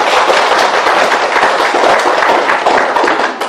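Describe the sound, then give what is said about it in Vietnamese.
A crowd breaks into sustained applause of congratulation, dense overlapping claps at a steady, loud level from start to finish with no voices over it. “Thì ở đây ai là người dễ thương, ít nóng giận, chịu đựng, tha thứ, bao dung, thì xin một tràng pháo tay chúc mừng.”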